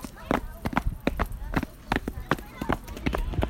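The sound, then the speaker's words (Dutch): A steady run of footsteps, about nine firm, evenly spaced thuds over a few seconds, recorded by schoolchildren in their neighbourhood, with a faint murmur of voices in the background. “Stappen!”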